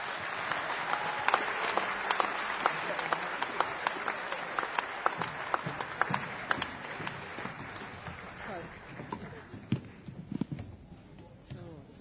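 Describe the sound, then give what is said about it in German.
An audience applauds the children after a children's festival, with steady, dense clapping that holds for about ten seconds, then thins out into a few scattered claps at the end. Faint voices murmur underneath. “Applaus für die Kinder.”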